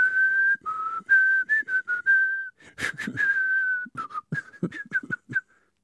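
A man whistles a cheerful melody, with sustained notes giving way to quick, choppy phrases and short pauses. No one speaks over it.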